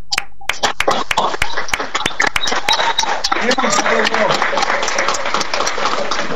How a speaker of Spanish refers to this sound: les voy a pedir de vuelta a cada uno de ustedes que generen el aplauso que se merecen por todo este trabajo y mucho más que han tenido en este año y que lo vamos a seguir teniendo en el 2024. ¡Aplausos, equipo completo!